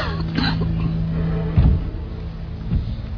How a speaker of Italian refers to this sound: La tosse non era nostra, ma era incorporata dentro, sì, dentro l'audio, no, durante, perché è una registrazione dal vivo, appunto, durante il processo.